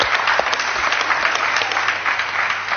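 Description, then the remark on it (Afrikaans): Steady audience applause from a crowd welcoming a long-distance cold-water swimmer, dense rapid clapping at a fairly loud, even level for a few seconds with no one speaking. “So, geef haar 'n hande klap,”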